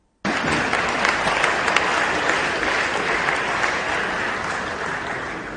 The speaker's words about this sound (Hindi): आपसे अनुरोध है कि आप आज के डेट में फिर से ताली बजाएं।